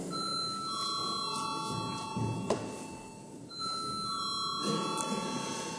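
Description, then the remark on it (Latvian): A steady electric bell rings continuously for several seconds in a parliament chamber during a plenary sitting, called before a vote on a bill. It pauses briefly midway before sounding again, with a faint murmur of the chamber beneath it. “Lūdzu zvanu.”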